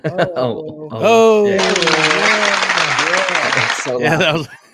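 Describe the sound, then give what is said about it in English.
A loud burst of hands clapping close to the microphone, a dense rapid patter lasting about two seconds while someone keeps talking in a sing-song voice through it. “The clapping loud or the rapping loud?”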